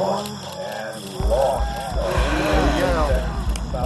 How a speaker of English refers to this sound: The sound of Cape Canaveral, Florida, is a crowd watching a rocket launch.